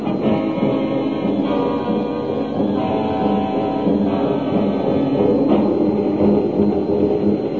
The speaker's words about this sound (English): Look, big gate. Closed. Big gate. Sit, stop the car. The gates are closed and the train is coming.